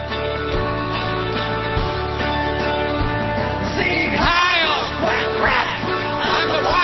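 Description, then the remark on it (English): A run of nasal quacks from Scotty the Duck, several in quick succession, loud, rising over a steady humming musical background. “I'm talking about Scotty the Duck.”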